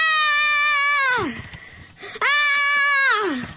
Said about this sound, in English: Once these ingredients were properly mixed, the latke was slapped into a pan full of olive oil, heated to a very high temperature, and this is when it began to scream.